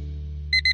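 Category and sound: household object, alarm clock ringing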